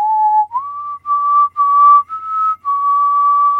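A lone person whistles a slow, steady Christmas melody, holding each clear note with brief breaths between phrases, fairly loud with no talking.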